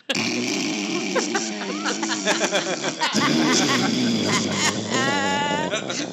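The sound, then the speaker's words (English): A voice imitates a cartoon snore: a loud, rattling, buzzy snort for about three seconds, a brief break, then another raspy rumble that ends in a high, wavering whistle. “Do you know the snores you hear in cartoons? Like that. Where the feathers blowing?”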